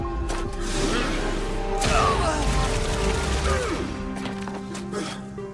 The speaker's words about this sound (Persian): ضربه های بدی میزنی، حتی این ضربه ها برای من توپلم مثل گلوله است.